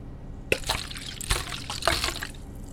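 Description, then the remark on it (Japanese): Close, crackling fizz of liquid bubbling, with sharp pops and hissy bursts of effervescence rising and falling over a few seconds, no voices present. “どう？シュワシュワの音が段違いでしょ？”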